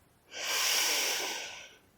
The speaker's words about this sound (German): Atme tief ein, die Luft kurz anhalten und wieder ausatmen. Wir atmen nochmal gemeinsam ein